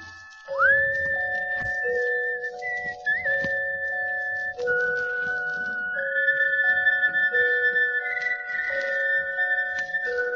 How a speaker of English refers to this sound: Now, to show you just how amazing the echo mic really is, I'll stand in a bright light and whistle at my shadow.